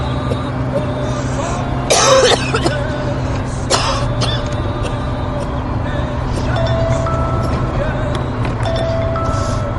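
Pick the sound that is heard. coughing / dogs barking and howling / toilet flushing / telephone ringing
coughing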